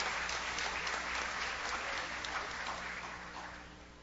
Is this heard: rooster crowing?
no